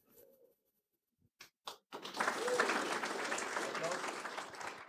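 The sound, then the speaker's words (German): A brief voice fades, then a few scattered claps break out and swell into sustained, dense audience applause for several seconds, for a team that presented their project The Quest of Architecture. “Applaus”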